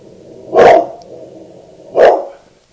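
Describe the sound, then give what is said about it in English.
A dog, Jamie, lets out two loud, full barks about a second and a half apart at a smoke alarm's chirps, with a faint, very short high-pitched chirp between them over a low steady hum. “There goes Jamie. I think one of the batteries got put in backwards or something. Hear that? He doesn't like those chirps.”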